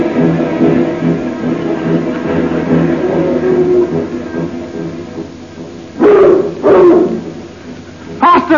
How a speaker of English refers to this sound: Just as we got out of that tunnel under the stage, they set the dogs on us. They think we're escaping convicts. This is most embarrassing for me, being chased across Dartmoor by bloodhounds.